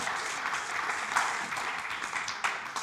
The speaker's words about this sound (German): Danke vielmals, sehr klar. Ja, okay, Applaus, ja, genau.